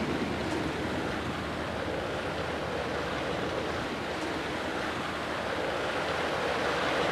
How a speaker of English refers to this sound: The platform is going to be lowered into the water because we take advantage of the fact that apples float in water. They float? Yeah. Yes, they do. Now you'll watch them as the bin goes down, the water and the apples come up.